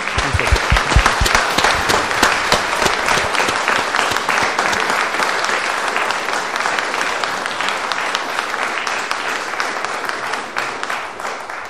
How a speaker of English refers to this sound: And he deserves a huge round of applause.